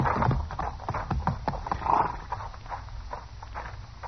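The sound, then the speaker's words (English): Horse hooves clip-clop at a steady trot as riders leave for Dodge on horseback, a quick run of hollow knocks that carries on for several seconds with a low rumble beneath, moderately loud, with no voices. “Now get back on your horse. We're leaving for Dodge.”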